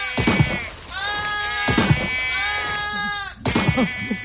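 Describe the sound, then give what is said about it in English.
Sheep bleat loudly, about four long, wavering cries following one another with barely a pause, some overlapping as if several animals call together. “Stop dreaming about drowning sheep and wake up.”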